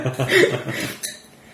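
A wine bottle being uncorked: a short squeak as the cork twists, followed by a couple of light glassy clinks, with faint murmuring voices underneath.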